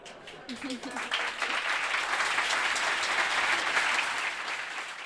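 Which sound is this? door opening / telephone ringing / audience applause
audience applause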